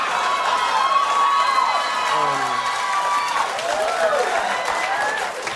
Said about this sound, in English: See, that just looks like regular applause. Right? Well, that's correct, because it is.